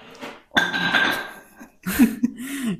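A dog fussing for attention: a short burst of rustling and clattering, then a low, wavering whine-like vocal sound that rises and dips, with no one talking.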